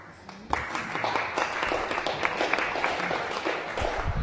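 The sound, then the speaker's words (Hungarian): An audience bursts into applause, many hands clapping in a dense, steady patter that starts abruptly and holds at an even, moderately loud level throughout, with no voices over it. “Már kicsit hiányoltam a tapsot.”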